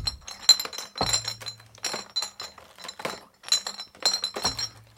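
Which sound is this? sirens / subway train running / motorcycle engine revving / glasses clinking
glasses clinking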